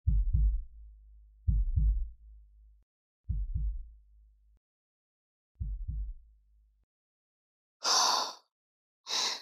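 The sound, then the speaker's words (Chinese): Four slow, deep double-thump heartbeats of a husband whose heartbeat is being felt by hand, evenly spaced and fairly loud, each lub-dub fading out; near the end two short bursts of hissy noise follow. “让我摸摸心跳。”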